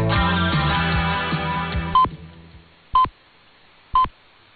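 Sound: radio time signal pips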